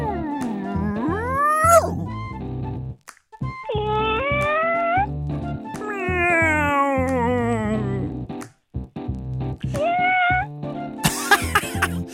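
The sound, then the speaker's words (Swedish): Kittens meow loudly in a series of drawn-out, wavering cries with short pauses between them, ending in a harsher, noisier call. No one speaks. “Hur säger man hej då på kattspråk då? Mjau. Mjau.”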